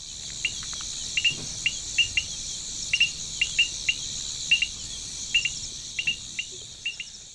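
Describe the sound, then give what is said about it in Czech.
Crickets chirp in a dense, steady shimmer, with sharper chirps popping out in irregular bursts over a quiet night background in wide open natural country under a crescent moon and a starry sky; no voices. “Nedovedu říct jak, ale prostě cítím ten široký přírodní prostor kolem sebe, který se připomíná jen silným ptačím hlasem a cvrčky.”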